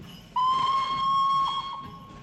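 A steam locomotive whistle sounds one long, steady, shrill blast of about two seconds over a bed of hissing steam, loud, fading out at the end.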